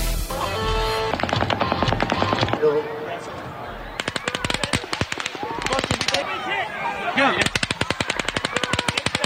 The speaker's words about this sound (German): Es ist der schlimmste Schusswaffenangriff der jüngeren US-Geschichte. Durch zahllose Schüsse auf ein Musikfestival in Las Vegas sind mindestens 50 Menschen getötet worden. Über 400 wurden verletzt.